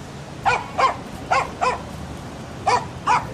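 A dog running toward the entrance of the theatre on Lycabettus, chased by a boy, barks in three quick pairs of sharp, mid-pitched woofs, evenly spaced with short pauses between, clear over a faint low background rumble.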